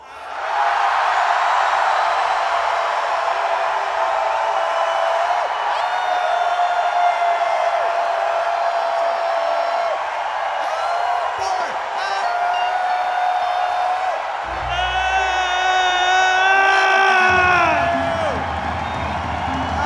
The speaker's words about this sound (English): Let's do the group holler, the group hoot, I like to call it. On the count of four, let's all yell as loud as we possibly humanly can, or if you're an alien, yell as loud as you can also.